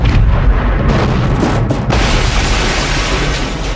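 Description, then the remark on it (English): A loud, sustained explosion roars with deep rumbling bass and crackling bursts as ignited gasoline sets off a massive fireball beneath a gas station's canopy, billowing continuously without pause, overwhelming. “The gas station is consumed by billowing explosions as Jim's car hares out of the smoke with its bonnet on fire.”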